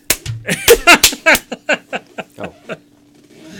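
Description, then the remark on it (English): A flurry of cartoonish punch sound effects: a few heavy, loud smacks up front, then a rapid, evenly spaced series of hits that gradually weaken and trail off. “Yeah, maybe we got a couple of those punches for you.”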